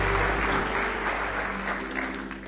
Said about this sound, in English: Give me one more hand clap of praise.